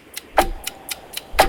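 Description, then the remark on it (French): A stopwatch timing a 30-second quiz round ticks steadily, six sharp clicks about four per second, with a couple of louder ticks carrying a faint ringing tone. No voices over it. “Attention, on va bien jusqu'au bout du chronomètre.”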